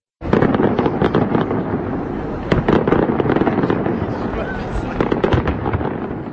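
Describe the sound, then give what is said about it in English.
New Year's Day fireworks burst in a dense, continuous barrage over Prague, sharp cracks and booms overlapping with the noise and voices of a crowd of thousands beneath, loud and sustained throughout. “Thousands came to watch the New Year's Day fireworks light up the sky over Prague.”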